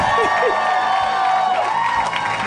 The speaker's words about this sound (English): How about a round of applause for Greg Proops, everyone?